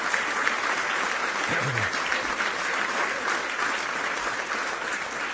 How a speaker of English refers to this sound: We have found out this is the first big social dinner of the calendar, and I think they did that out of respect to our nation's governors. So if we give a great round of applause to the President and the First Lady.